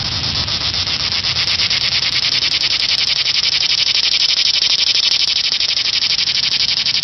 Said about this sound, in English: And that's just one cicada. Imagine what a billion would sound like.